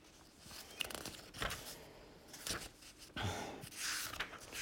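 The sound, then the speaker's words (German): Pages of a book being flipped through to find a passage, a series of soft papery swishes and rustles at irregular intervals, fairly quiet, with no talking. “ich mit Blättern verbringen”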